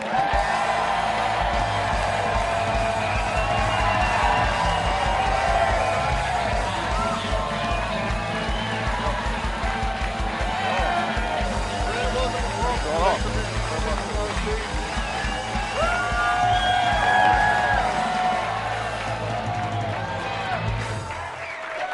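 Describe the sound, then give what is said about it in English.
A studio audience cheers and whoops loudly and steadily as a guest is welcomed, a dense wash of voices with scattered high yells rising above it, sustained for the full stretch without easing off. “Ladies and gentlemen, please give a warm Packers Live welcome to Brandon Bostic.”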